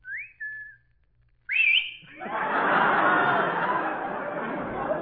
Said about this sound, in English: This is the first time I ever picked up a factory whistle.